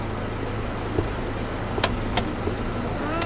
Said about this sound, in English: The taxi pulled up in front of the airport